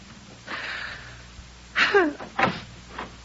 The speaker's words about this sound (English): Did I hear the front door slam?